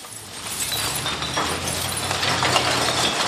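A dense, continuous clatter of glass bottles clinking and rattling against each other, steady and loud, over a low mechanical hum of heavy machinery running throughout, at a large glass recycling sorting facility on the central coast north of Sydney, Australia.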